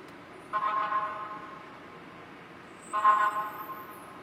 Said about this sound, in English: Oh, it's okay. That's a fire truck. Another fire truck? Are these all fire trucks?